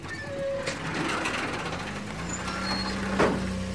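A heavy truck engine starts on a transport company's grounds and rumbles low and steady, then shifts up in pitch as the vehicle rolls toward the gate, with a brief hiss like an air brake releasing near the end.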